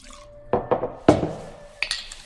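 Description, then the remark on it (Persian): A drink is poured into a glass, with several sharp clinks of glassware and a faint ringing tone beneath. No voices. “همین الان میخواستم یکم نوشیدنی بخورم.”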